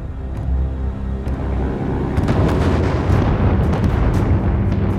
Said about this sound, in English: the first bombs hit. When you hear the airplanes overhead, you're like, oh boy, they sure are doing training early today. And then when all of a sudden things start to explode, you're like, oh man, somebody's really going to get in trouble